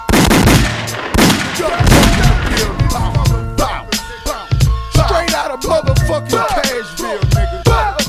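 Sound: rapid gunshots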